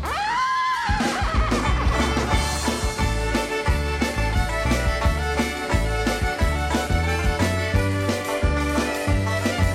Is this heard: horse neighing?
yes